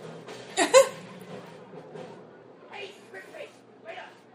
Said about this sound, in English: Ooh, hiccup. I've drunk too much.